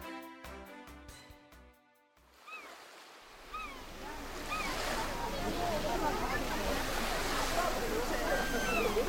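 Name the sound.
ocean waves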